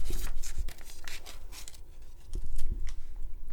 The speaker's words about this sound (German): Er nahm seine Schere und schnitt los.